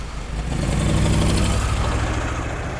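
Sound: truck engine running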